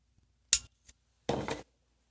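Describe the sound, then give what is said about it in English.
A cigarette being lit: a sharp lighter click, a faint second tick, then a short breathy hiss of flame lasting under half a second, with no talking. “So, excuse me while I light this cigarette.”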